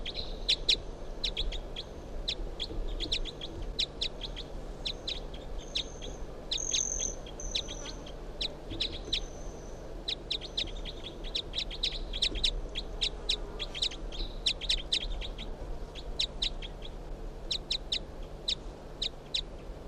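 Rapid, high-pitched chirps from bird 361, calling in response to bird 362, which has just been brought outside, repeat steadily throughout, with a few longer whistled notes midway, over a low, constant background hum. No one speaks.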